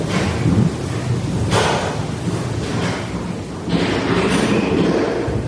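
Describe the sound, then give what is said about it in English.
Heavy thuds and bangs, like doors and cupboards shutting and feet stomping, repeat irregularly over a constant rumbling noise in an empty house with nobody inside. No one speaks. “And it sounds like doors are shutting and cupboards are shutting and people are stomping.”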